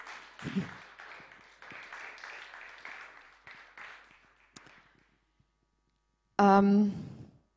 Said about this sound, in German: Das ist schön, dann dürft ihr euch selbst mal einen Applaus geben.